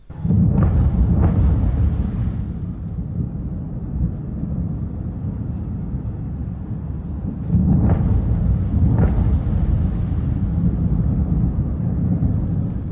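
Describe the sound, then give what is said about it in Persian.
Deep, rumbling explosions at Nobonyad roll through a continuous low roar, with two heavier booming surges, one at the start and another partway through, each swelling loudly before fading back into the rumble. “انفجار وحشتناکی بود.”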